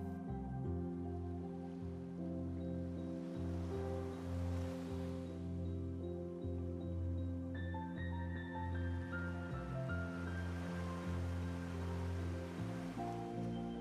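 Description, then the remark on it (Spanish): Gentle sea waves wash in slow, soft swells, rising and falling over a steady low humming drone, with no voices. “Pues escuchas las suaves olas del mar de nuevo.”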